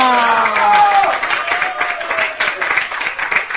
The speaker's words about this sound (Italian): e io adesso lo chiamo, e appena arriverà qua si beccherà uno degli applausi come mai in vita sua si è beccato